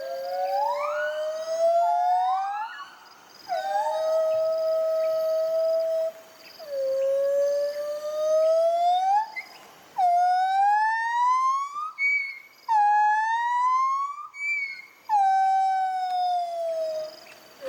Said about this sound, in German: Genau, und wir haben so ein kleines Duett für euch dabei, das wollen wir euch nicht vorenthalten. So klingen singende Gibbons.